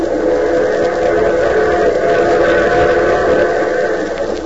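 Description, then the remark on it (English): A steady, loud rumble of a train in motion, heard in a compartment on the train, with continuous rolling noise and a faint rhythmic clatter underneath, sustained throughout without any voices. “But first to a compartment on the train where we find Mr. Ace alone.”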